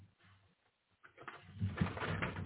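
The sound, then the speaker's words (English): A soft paper rustle as a book page is turned, starting after a brief near-silent pause and building into a dry, papery swish for about a second and a half. “I'm turning the page.”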